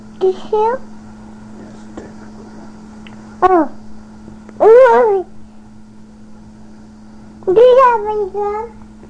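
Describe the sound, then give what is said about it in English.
A cat meows four times, each call drawn-out and wavering, with pauses of a second or more between them over a steady low hum. “Kitty?”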